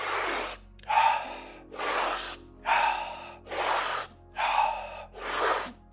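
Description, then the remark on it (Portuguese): Rapid, rhythmic breathing in and out during a guided breathing exercise at a sped-up pace in the final round, about seven strong breaths in six seconds, alternating sharp inhales and forceful exhales, loud with no talking. “Presta atenção à tua respiração, encontra o teu ritmo, para dentro, para fora, para dentro, para fora.”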